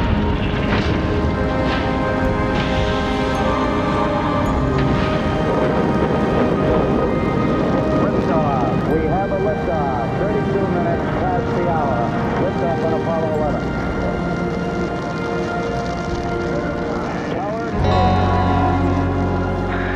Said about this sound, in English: T-minus 15 seconds. Guidance is internal. 12, 11, 10, 9. Ignition sequence starts. 6, 5, 3, 2, 1, 0. All engine running.